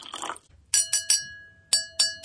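Five bright glassy taps on water-filled drinking glasses, each ringing with a clear sustained tone that fades, in two quick groups after a brief scrape of handling noise.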